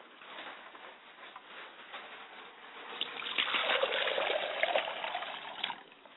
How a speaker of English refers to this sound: And I allow the water to pour to the ground.